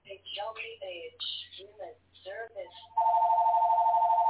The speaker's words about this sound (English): I'll wait until their phone is answered. No, that's my background.